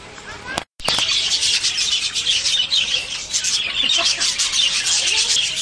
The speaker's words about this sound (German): Das war unschwer zu erkennen, das sind Wellensittiche.